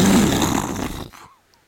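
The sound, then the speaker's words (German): A single loud, rough crack and rumble of nearby thunder, full of low growling noise, fading out after about a second and leaving near silence. “Donner in der Ferne.”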